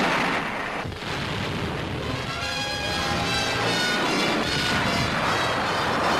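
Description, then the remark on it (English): Heavy artillery fire in the Korean War, supporting an American unit against an enemy strong point in the hills, roars without pause. Its booms blur into one dense, loud rumble that barely eases for the whole stretch, with no voices over it. “First, from the tankers. Then from the heavy artillery.”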